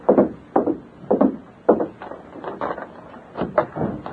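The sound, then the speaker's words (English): A masked man opens a hotel room door on the first floor at midnight, heard as a run of wooden thumps and rattles, evenly spaced at first, then quicker and more uneven, with no voices. “Stand to one side, Tonto, and cover me while I open the door.”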